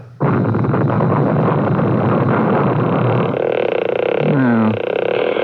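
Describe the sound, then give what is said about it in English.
A massive nuclear device explosion, set off as an experiment, roars in a sustained, dense rumble that fills the whole clip, with a brief rising whine near the end as the blast continues without pause. “Had your explosion, and according to the Geiger reading, there's a high radiation count.”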